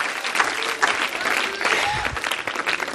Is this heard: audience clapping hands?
yes